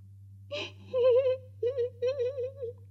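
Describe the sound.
A voice imitates a small creature's crying: a quick breathy gasp, then three high, wavering whimpering sobs in a short trembling rhythm, moderately loud, with a low steady hum underneath.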